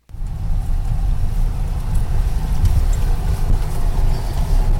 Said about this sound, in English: Riding in his pickup truck near Shaver Lake